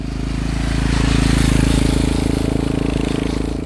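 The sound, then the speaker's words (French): A Yamaha MT-09 motorcycle engine rumbles loudly as it passes, its throaty pulsing note swelling toward the middle and easing slightly, with no talking over it. “Oh, t'as entendu la moto qui vient de passer ? Ouais, c'est une Yamaha MT-09.”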